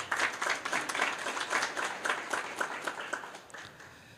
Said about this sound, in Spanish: Le damos la más cordial bienvenida y ese caluroso aplauso para don Harold Berger.